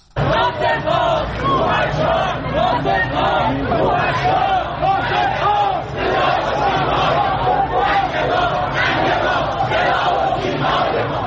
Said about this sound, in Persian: این فریاد مردمی است که روز یک شنبه در تهران ناصر ملک مطیعی بازیگر پیشکسوت ایرانی را تا خانه ابدیش بدرقه کردند. بنا به گزارش‌ها مراسم خاکسپاری این بازیگر در میان شعارهای اعتراضی برگزار شد.